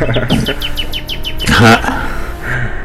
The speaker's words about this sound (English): But there's a flock of birds up there, and I enjoy it. You can hear them on the radio. Yeah, they sound realistic. It's a nice, pleasant effect.